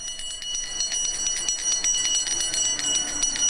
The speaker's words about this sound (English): ban Santa Claus-suited bell-ringing volunteers from the Salvation Army